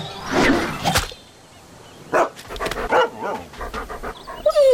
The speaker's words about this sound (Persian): یک سگ به تعقیب نور افتاد و کوشش میکرد بگیرش.